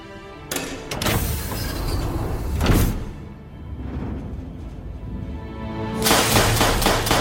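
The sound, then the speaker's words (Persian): Heavy automatic blast doors of a launch silo grind and rumble shut shortly before a launch, with loud metallic bangs near the start, a sustained mechanical roar, and another harsh surge of noise near the end. “درهای انفجاری خودکار بسته میشن و هر کی تو سیلو بمونه حسابی میسوزه.”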